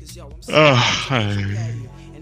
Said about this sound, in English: I already started yawning.